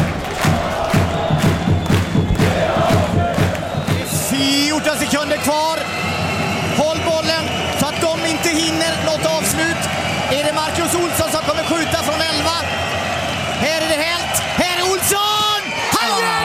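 A man yells loudly amid a roaring, cheering handball crowd in an arena at a Kristianstad handball playoff match, with whoops and shouts rising over the constant dense noise throughout.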